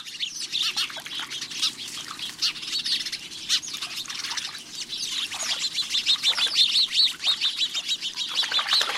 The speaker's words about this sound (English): If you aren't interested in setting out bird feeders, installing a bird bath can be an entertaining alternative. These chattering, gregarious house sparrows may be the first to arrive.